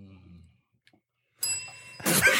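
single bell ring

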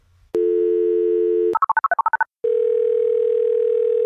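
telephone dial tone

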